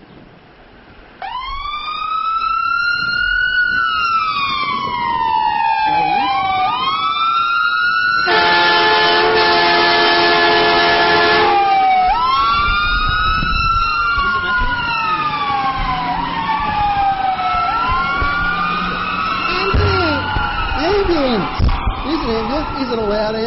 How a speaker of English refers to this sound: Is it a loud ambulance? How did you know it was an ambulance? Yeah? How? Because the sirens. Now, everyone knows what an ambulance sounds like, especially if you live about here.